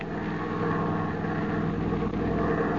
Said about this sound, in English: The following morning, as dawn breaks in the east, a trim, bullet-shaped plane climbs up into the cloudless sky.